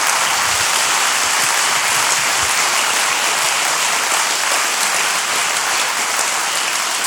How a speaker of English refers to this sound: So could we do this? Could we just give a big round of applause and just as a gratitude and thank you?